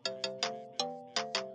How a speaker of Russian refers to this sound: О, СМС.